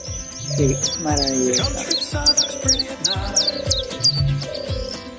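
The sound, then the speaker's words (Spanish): Several birds chirp and sing in quick repeated high notes while lower cooing calls pulse underneath, a busy, moderately loud chorus with no talking. “Y es que ya en los capullos de algunas yemas de los árboles, en la progresiva longitud de los días, en los graznidos y los zureos y los cantos, empieza a llegar la intuición de la primavera.”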